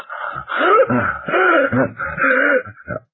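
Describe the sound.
A male storyteller imitates a character's heavy, open-mouthed gasping: five or six ragged, groaning breaths in quick succession, fairly loud, with no words spoken.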